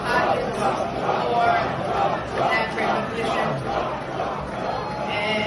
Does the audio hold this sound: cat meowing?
no